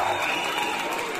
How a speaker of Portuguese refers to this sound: Alô, galera do rodeio! Quem quer ver o rodeio, dá um grito!